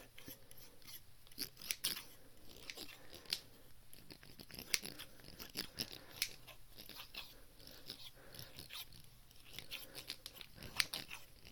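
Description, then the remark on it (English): Repeated crisp snipping of alligator scissors and then normal scissors, a steady series of sharp metallic cuts, with no talking over them. “Different sound. Alligators and then normal scissors.”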